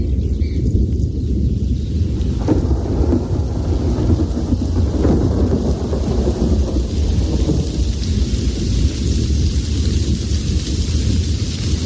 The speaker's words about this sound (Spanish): Es el maravilloso sonido de la tormenta que por fin rompe en esta ocasión. En este año realmente hemos tenido todos ocasión prácticamente de oírlo.